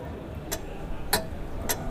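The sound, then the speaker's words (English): A voice imitates a ticking clock with crisp mouth clicks, three sharp ticks spaced roughly half a second apart over a low background hum. “Well, now we're going to do a sound effect of a clock, and then we're going to go to our next timing issue.”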